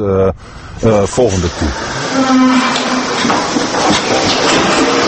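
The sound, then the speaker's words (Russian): Dairy cows kept indoors all the time moo loudly in a barn, several long lowing calls overlapping early on, followed by a steady wash of clattering, rumbling indoor barn noise. “Из-за того, что коров все время держат в помещении, они чаще болеют, поэтому их чаще забивают в молодом возрасте.”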